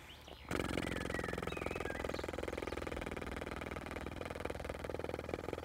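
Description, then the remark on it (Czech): A continuous low lip-buzzing drone, a basic didgeridoo lip-vibration exercise held as long as possible with a smooth exhale, starts abruptly after a brief pause and holds steady and rough-textured for about five seconds without talking. “Zkuste tu vibraci udělat co nejdelší a vydechujte plynule.”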